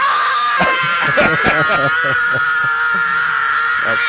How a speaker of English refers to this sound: That's the same scream that my wife gives every time a game goes to overtime.